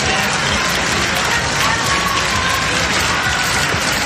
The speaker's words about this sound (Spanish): Todo esto después de debutar este pasado viernes en su primer acto público como cadete en una ofrenda floral a la Virgen del Pilar en la capital aragonesa y entre el aplauso de los vecinos que se han acercado.